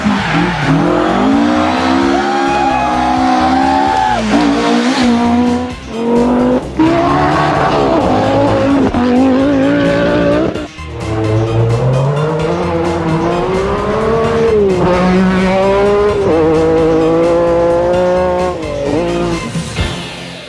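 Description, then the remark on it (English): Loud, continuous car engine noise with rising and falling revs, tires squealing and skidding, like a race car pushed hard through corners, intense for the whole stretch with no talking. “Car sounds?”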